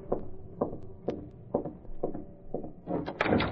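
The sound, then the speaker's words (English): An apartment's service door being opened with a skeleton key: a steady series of muffled wooden clunks, about one every half second, then a louder, harsher scraping burst as it swings at the end. “using a skeleton key, was opening the service door to Kane's apartment.”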